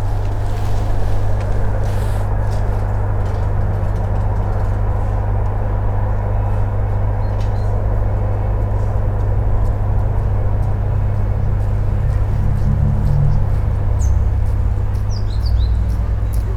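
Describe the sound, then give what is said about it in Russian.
A passing train or commuter electric train makes a loud, steady low rumble with a broad roaring hiss for the whole stretch, and a few faint high bird chirps come through near the end. “Вот поезд или электричка едет.”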